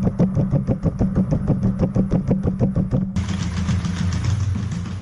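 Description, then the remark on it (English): A robot dog's footsteps tap out a quick, even mechanical rhythm over a buzzing motor hum, then give way to a steady whirring drone with low tones as the stepping stops. “Those are the footsteps of the robot dog.”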